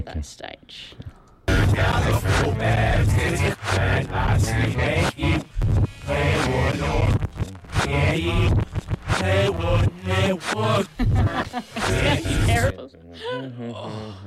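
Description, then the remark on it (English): Someone hums a tune up close and loud, a steady, continuous melody lasting around eleven seconds, with a brief voice at the very end. “You're humming it.”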